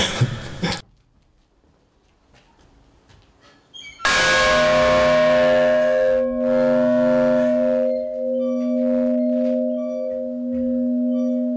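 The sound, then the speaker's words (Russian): A large church bell is struck loudly, then hums on in a long, steady, resonant ring, after a brief burst of noise and a few quiet seconds. “Вы считаете, что колокольный звон вас тоже вылечил?”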